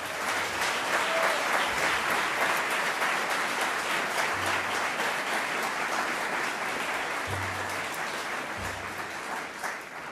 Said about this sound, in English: This performance reminds us that young people are powerful and they do have a voice that must be heard. Let's give these students a big round of applause.